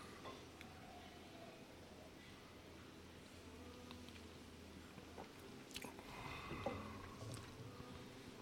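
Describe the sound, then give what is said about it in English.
A quiet sip of whiskey, taken as a real sip after a small first taste, with soft wet slurping and mouth noises building toward the end against a low background hum. “So I treat this a little like the Macallan, a really small sip just to coat the tongue, to get the tasters flowing, get the taste buds up there ready to roll, and now I'm gonna go back in for a real sip.”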